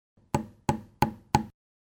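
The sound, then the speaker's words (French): Four sharp, evenly spaced hammer blows strike a nail into a wall to hang a picture, each a solid thud with a brief ringing decay, steady in rhythm and with no voices. “Passe-moi le marteau et les clous.”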